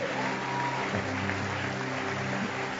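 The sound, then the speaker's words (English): A crowd claps steadily and continuously for about three seconds, a dense, even wash of applause with a low sustained musical tone humming underneath. “Can we, with clapping, bring”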